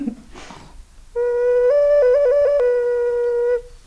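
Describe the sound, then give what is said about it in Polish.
A ceramic bird ocarina whistle plays a steady, clear note for about two seconds, stepping up in pitch and warbling quickly between notes before ending. It sounds fairly loud after a brief rustle. “Mamy też ceramiczne ptaszki Okaryny, które też były takim projektem. Czyli to są takie ptaszki do gwizdania, tak?”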